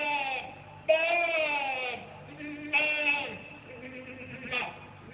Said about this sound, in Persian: ولی نزدیکی‌های آسیاب که رسیدند، صدای یک گوسفند که فریاد می‌کشید به گوش اونا رسید.